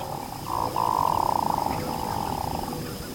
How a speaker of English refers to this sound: With a voice that sounds more like a frog than a bird, a male hooded merganser is courting a female.